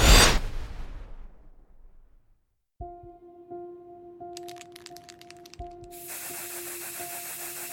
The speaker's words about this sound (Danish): Lyden fra en spraydåse med maling, der bliver sprøjtet ud, og mumlen fra fire unge er det eneste, der bryder nattens stilhed.